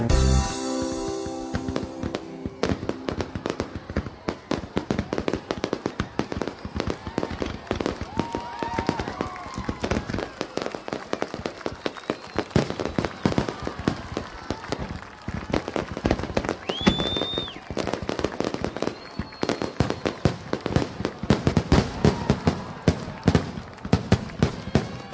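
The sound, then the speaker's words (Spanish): A long, dense barrage of fireworks crackling and popping in rapid succession, with sharp bursts and occasional whistles rising above the steady crackle, at a fireworks display in Bangkok, Thailand, during the December festival for the king. “En diciembre, para la fiesta del rey, Bangkok se transforma en un mar de luces fantasmagóricas que encuentran su contrapunto en los fabulosos espectáculos de fuegos artificiales.”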